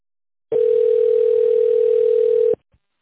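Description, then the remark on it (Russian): A single steady telephone line tone while waiting for an operator after calling the company Samara Stroykom, holding one low-mid pitch for about two seconds, loud and alone with no voices, then cutting off cleanly, followed by a faint click. “Наберите добавочный номер сотрудника, либо дождитесь ответа оператора.”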